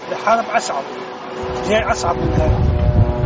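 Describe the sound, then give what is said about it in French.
A steady, droning engine hum of Israeli military drones flying over central Beirut, Lebanon, with a low rumble thickening halfway through, heard beneath a person talking. “Comme vous l'entendez, peut-être autour de moi, on entend les drones israéliens qui sont de retour au-dessus du centre de Beyrouth.”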